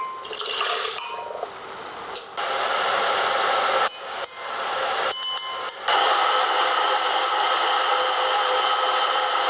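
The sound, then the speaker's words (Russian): A blender whirs loudly as it blends finely cut banana into a milk and banana milkshake, its steady motor roar cut by a few brief pauses before running on continuously, with no talking. “Надо разрезать бананчик помельче и все взбить в блендере.”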